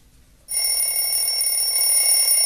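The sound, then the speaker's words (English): An alarm clock bell bursts in suddenly after a brief quiet moment and keeps ringing loudly and steadily, a bright, continuous metallic jangle with no voices, played in the intro of a morning show. “Stop touching that snooze button and get ready to clock in with the best morning show on the planet.”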